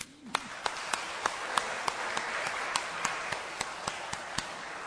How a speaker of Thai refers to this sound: ผมอยากจะเชิญชวนพวกเราทุกคนที่นี่ที่จะระลึกถึงเกียรติประวัติของผู้ที่เป็นแม่โดยการปรบมือแสดงการขอบพระคุณ